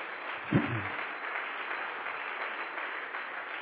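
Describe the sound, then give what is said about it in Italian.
An audience applauds the Lord steadily throughout, a dense wash of clapping from many hands, with a single low thud near the start and no voices. “Facciamo un forte applauso al Signore.”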